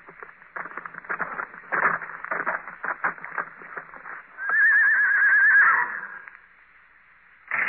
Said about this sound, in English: At 8, they heard a horse stop outside.